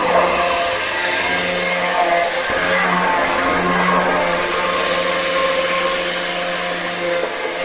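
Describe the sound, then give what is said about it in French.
An electric blender mixes a liquid soap mixture of melted oils, still warm at about 42 degrees and off the heat: a loud, steady whirring motor with a low hum beneath and a bright churning hiss on top, holding even for the whole stretch. “42 degrés, voilà, mais ça se fait donc hors feu, évidemment, à froid, et on va faire la soupe, hein, finalement, sur le mixeur.”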